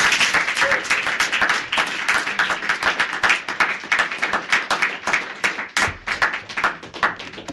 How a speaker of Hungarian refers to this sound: Megkérek benneteket, hogy fogadjátok sok szeretettel, meleg tapssal, randi gurut,